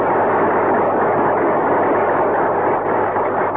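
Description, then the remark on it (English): An audience applauds Al Jolson on the 10th anniversary of the making of The Jazz Singer, in a dense, steady wash of clapping that stays loud and even for a few seconds, with no voices over it. “Al, those who are applauding didn't see you in that show.”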